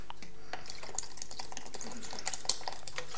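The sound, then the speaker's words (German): A little water trickles and splashes into a drink mixture sweetened with molasses, a steady liquid pour with small drips and faint clinks, moderately quiet, with no talking. “Werde ich noch ein bisschen Wasser reintun.”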